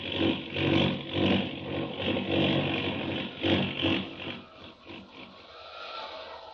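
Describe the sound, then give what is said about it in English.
A roaring airplane engine dives in a tailspin as the plane falls fast and out of control over the Rocky Mountains in a Superman story. Its loud, rough drone surges and wavers in pulses before easing off toward the end. No one speaks. “That plane, it's out of control, falling fast.”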